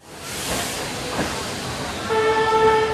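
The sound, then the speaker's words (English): A slow, crowded passenger train, Train 5640 out of Guiyang in southwestern China, rolls along the rails through the countryside with a steady rumble and hiss. It has no air conditioning and its windows are open. A sustained high whistling tone rises over it during the final second. “Train 5640 out of the southwestern Chinese city of Guiyang has no air conditioning.”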